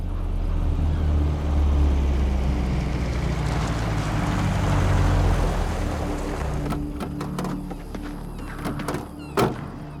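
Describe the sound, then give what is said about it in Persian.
A car engine rumbles low and steady, then eases down and fades as the vehicle comes to a stop, followed by a few sharp clicks and a thunk. “ماشین رو نگه دارم.”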